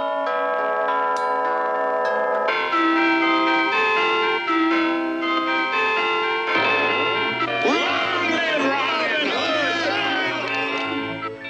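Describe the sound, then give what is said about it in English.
Many town chimes and church bells ring at once, their tones overlapping into a loud, continuous clangor that later swells with swirling, wavering pitches as the ringing builds. “We could have a wedding on New Year and just have all the chimes in town going like”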